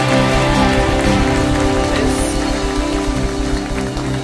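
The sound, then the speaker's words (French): An audience at a church celebration applauds in acclamation of the one present among them, a loud, dense, steady wash of clapping that holds for several seconds, with sustained musical tones droning underneath and no talking. “peut donner une main d'acclamation à celui qui est là, qui est présent au milieu de nous.”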